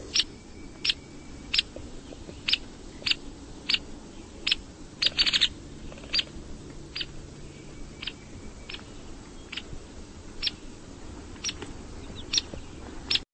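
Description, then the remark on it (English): A hairy woodpecker gives a long series of sharp, high 'peek' calls, spaced irregularly about once a second, with a brief flurry midway, over a faint outdoor background and no talking. “Let's listen to the hairy woodpecker.”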